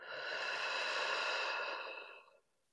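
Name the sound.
deep inhale and exhale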